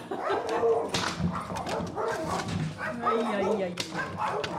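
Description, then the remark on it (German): A beagle barks and whimpers in short, repeated yelps at a pet hotel at an airport, with a person talking over much of it. “ist hier der Zimmerwächter. Beagle.”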